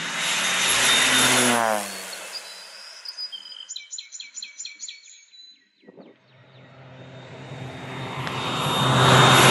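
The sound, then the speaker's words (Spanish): A light crop-spraying aircraft drones loudly overhead and fades as it passes, leaving a brief lull with a few bird chirps, before the propeller engine swells again, growing louder as it approaches on its third pass in ten minutes. “Y ahí viene la avioneta que hace ya 10 minutos está pasando.”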